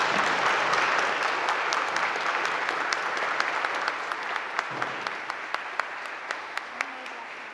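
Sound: audience applause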